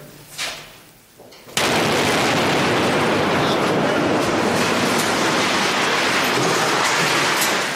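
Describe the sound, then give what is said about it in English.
A sudden, massive explosion bursts in after a quiet moment as a building is blown up, one of several explosions in the last few minutes, followed by a sustained, roaring rumble of collapsing debris that stays loud until the end. “There've been several of these in the last few minutes.”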